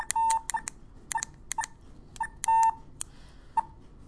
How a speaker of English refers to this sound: There, it's a 20. Okay, so two high-pitched beeps means 20.